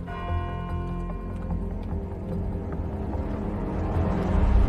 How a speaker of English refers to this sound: He glances up at a large clock above, then down at his watch as the seconds tick by.